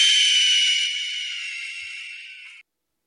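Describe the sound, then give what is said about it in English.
A single loud, harsh hawk screech sound effect rings out for about two and a half seconds, a raspy high-pitched cry that fades slightly before cutting off abruptly, with no voices. “It was the hawk sound effect.”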